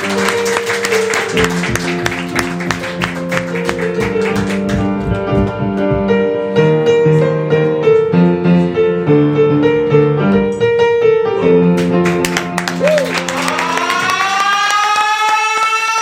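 Steady applause and clapping run under bright tonal music, with a rising, siren-like sweep near the end. No one speaks.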